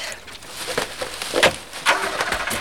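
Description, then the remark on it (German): A car engine cranks and starts, then the vehicle pulls away as someone who was in a cornfield flees, its rough, noisy rumble broken by several sharp crackling bursts, with no voices. “Da war jemand, aber er ist weggefahren.”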